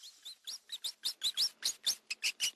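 A rapid series of high-pitched rat squeaks, about a dozen short chirping calls in quick, fairly even succession, clear with no other sounds.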